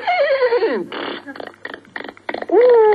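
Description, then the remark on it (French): A human voice imitates a horse's neigh: a loud, wavering whinny that slides downward in pitch, then a run of breathy, sputtering bursts, ending in another rising tonal cry. “Le cheval, c'est vrai que je fais bien cheval, oui, on l'a déjà dit.”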